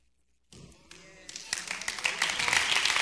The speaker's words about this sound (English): Now, you were slow to clap, but your child or your family member might be out there on the volleyball court in the sand on Tuesday night.